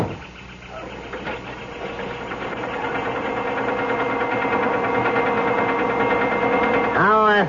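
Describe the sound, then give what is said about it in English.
A car engine idles with a steady, low rhythmic chug that slowly grows louder, then revs up in a sharp rising whine at the end as the car pulls away. “I got a call from the chalet to hold the car for you.”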